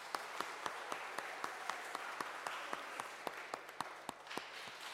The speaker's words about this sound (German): Sehr gut, können mal klatschen, sehr gut.